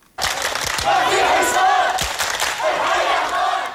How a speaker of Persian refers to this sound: تصاویر ویدیویی که در رسانه ها به نشر رسیده نشان می دهند که پس از اعلان این خبر مردم حلب به سرک ها برآمده ابراز خوشحالی می کردند.